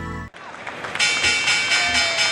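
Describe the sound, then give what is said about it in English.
A loud, bright stock exchange opening bell rings continuously for over a second, pulsing in rapid repeated bursts over a background murmur of crowd noise, after a brief tone and noisy lead-in. “That is the sound of the opening bells”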